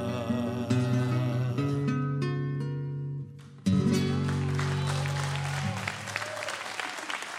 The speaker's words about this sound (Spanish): fuertísimo ese aplauso.